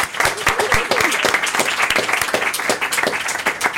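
An audience claps steadily, dense overlapping handclaps forming a loud, continuous wash of applause with no pauses.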